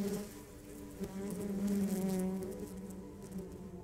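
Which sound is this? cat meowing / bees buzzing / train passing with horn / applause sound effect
bees buzzing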